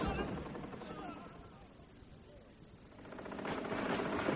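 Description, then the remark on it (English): A steady, crackling roar of gunfire during a siege fills the scene, dense and continuous, swelling toward the end, with voices murmuring underneath. “Well, Sir Robert, if the Empress is offering peace, what is the meaning of this gunfire?”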